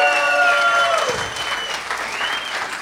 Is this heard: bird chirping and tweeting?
no